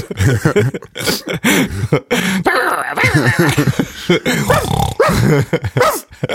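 A dog growls and barks in a steady string of rough, close vocalizations, loud and nearly continuous for several seconds with only brief gaps.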